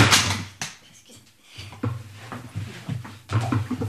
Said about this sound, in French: Je tombe en bas de ma chaise.